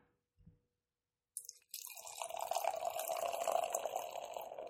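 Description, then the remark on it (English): A 7.5% IPA from Duclaw pours steadily into a glass, a continuous gurgling splash that starts after the bottle is popped with a short soft knock and a brief fizzy burst, with no talking over it. “So let's go ahead and pop it. Pour this bad boy.”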